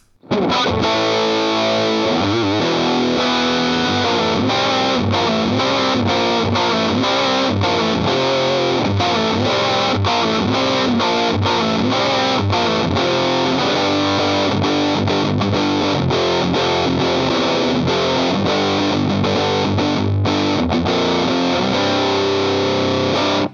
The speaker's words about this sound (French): passe à la Blackie 2 qui présente un réglage un petit peu différent avec à la place du potard de tone un potard de filter. Et on a le choix entre une distorsion au silicium et au germanium avec le petit switch qui est juste à sa gauche.